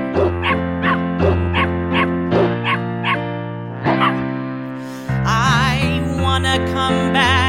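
Puppies bark and yip in a quick, steady rhythm over a sustained musical backing, then break into wavering, howl-like cries near the end. The sounds are fairly loud.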